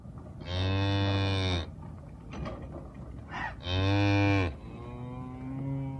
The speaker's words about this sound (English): Fifteen cows grazing in a small paddock, but they're not ordinary cows. These are next generation low methane emitting bovines.